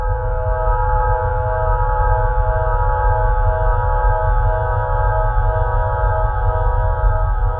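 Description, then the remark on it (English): A loud, steady synthesized drone of layered tones, called water tones, holds without a break over a deep, rumbling low hum, forming one continuous shimmering chord with no speech. “The second tones were called water tones.”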